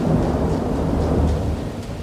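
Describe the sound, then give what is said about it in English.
Loud, steady roar of heavy rain at night with deep rumbling thunder rolling underneath, continuous, with no voices. “a lot of heavy rain. Probably one of the top five nights in my life of thunderstorms”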